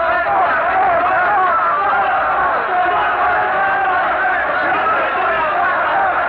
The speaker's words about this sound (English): But the crowd will not be moved. Their frenzied, hysterical shouts are filling the square with a mighty roar of fury, and they're stoning Savonarola now, all turned against the man that they once loved and revered.